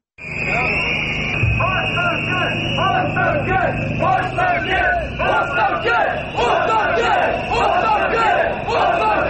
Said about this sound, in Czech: Pištaljke i isti zahtev odzvanjaju ulicama Beograda peti put u posljednja dva i po mjeseca, otkako su pod okriljem noći nepoznati ljudi sa fantomkama srušili objekte u kvartu Savamala.